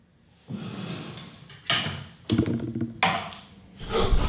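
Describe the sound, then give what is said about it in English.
A light stand and equipment, pulled toward a man seated in a chair, topple over on top of him in a series of loud clattering thuds and bangs, the crashes tumbling in uneven bursts over a few seconds with no voices. “His equipment falls on top of him.”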